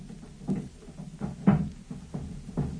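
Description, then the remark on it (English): Heavy furniture is being shoved and dragged around to barricade an office door, with a series of muffled thumps and scrapes at an irregular pace, as if from behind a closed door. “Sounds as if he's moving the furniture about. He's barricading the door.”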